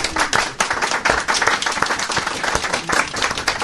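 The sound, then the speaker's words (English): A crowd claps together in a steady, even rhythm, the sharp hand claps landing in regular beats at a fairly loud level, with no talking over them. “They even applaud in rhythm.”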